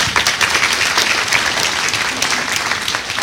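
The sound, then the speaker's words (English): An audience claps steadily for a few seconds, a dense, loud wash of overlapping hand claps with no pauses and no clear voices. “And even if you don't know them, I'm going to tell you what you ought to be proud to know, but clap your hands.”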